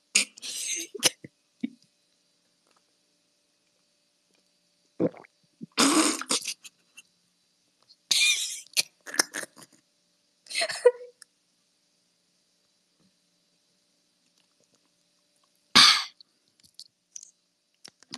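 Someone chugs a two-day-old bottle of Coca-Cola in several bouts, with wet gulping and breathy gasps in short loud bursts separated by long pauses of near silence.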